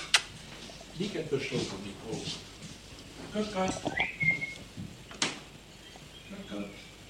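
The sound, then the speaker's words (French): A pet bird named Coco gives a brief, clear whistle partway through, over soft murmuring voices and a few sharp clicks and knocks. “Mais quel est cet oiseau que nous entendons chanter si mélodieusement actuellement?”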